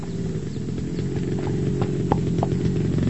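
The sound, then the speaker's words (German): Two horses' hooves clip-clop at a steady walking pace on a sand track by a paddock, the sharp knocks standing out over a continuous low droning rumble that fills the background throughout. “Meine 4 PS haben mehr Power als eure beiden Klepper.”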